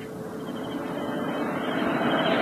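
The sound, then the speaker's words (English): A heavy armored car engine rumbles steadily, growing gradually louder as it approaches, a deep continuous drone with a faint higher whine on top. No one speaks. “An armored car.”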